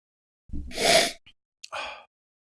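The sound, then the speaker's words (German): A loud sniff through the nose as someone smells a strawberry-scented item, a long breathy inhale followed moments later by a second, shorter sniff, with no talking around it. “Nicht, dass Zuhörer wieder sagen, wir schnaufen so laut.”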